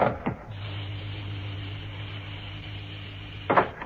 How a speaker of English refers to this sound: I'm ready. And open the door. Yes.